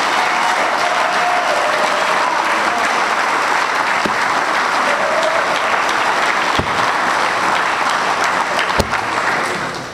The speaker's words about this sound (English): This committee is like the person with the key. They are the ones that put this together. So we gotta give them a round of applause for doing such a good job.